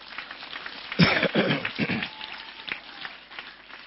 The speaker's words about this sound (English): Give a big hand clap to Jesus Christ.